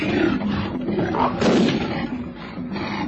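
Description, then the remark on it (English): A black-maned lion lets out a deep, rumbling roar as it charges, loud and sustained for several seconds, swelling to a harsher peak midway before settling into a continued growl. “The lion, he was black-maned, opened his great jaws in a soundless snarl, braced itself and went like a bullet for the girl.”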